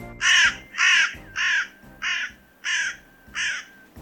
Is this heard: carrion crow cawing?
yes